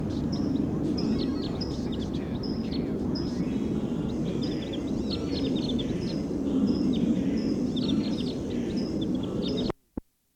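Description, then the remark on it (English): A wild bird, designated 302, calls loud in the distance with rapid, funny bursts of high chirps repeating throughout, riding over a steady low rumbling background that cuts off abruptly at the end with a click. “302's that rapid, funny call. Wild bird calling loud in the distance, pointed in the direction of the wild bird.”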